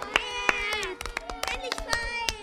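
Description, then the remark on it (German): A crowd cheers in front of the parliament on 12 November 1918, with many overlapping voices shouting and calling at once while sharp, irregular hand claps break through the steady, lively din. “Hier jubeln die Menschen vor dem Parlament.”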